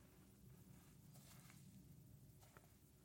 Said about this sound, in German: Eine Stunde lang Naturgeräusche. Schritte im Schnee.